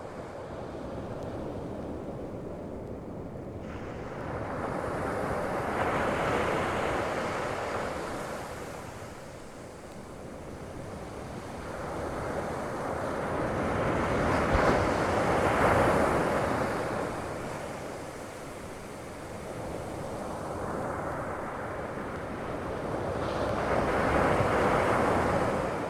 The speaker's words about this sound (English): We're going to enjoy the sound of the waves here while we get all set up for the … set, so stick around.